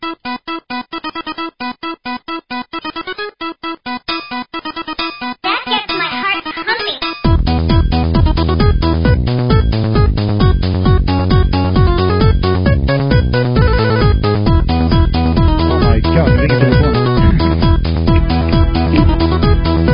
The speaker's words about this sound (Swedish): Kör en liten jingle då så länge.